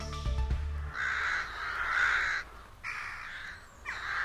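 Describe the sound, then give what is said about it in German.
Crows caw repeatedly, four or five harsh, drawn-out calls in quick succession, fairly loud, following a brief low thump at the very start. No one speaks. “Gleich mehr zu den Krähen, jenen schwarz gefiederten Rabenvögel, deren Intelligenz wir immer noch unterschätzen.”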